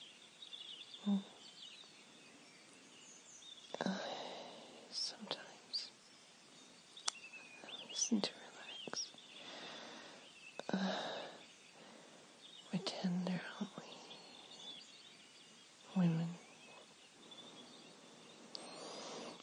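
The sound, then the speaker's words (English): Faint birdsong drifts in the background, scattered short chirps and tweets over soft, breathy whispering sounds, with occasional quiet rustling bursts. “Rhythm to the song of the birds.”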